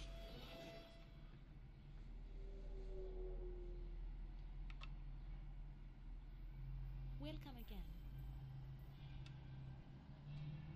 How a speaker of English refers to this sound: There's another bus or car or something.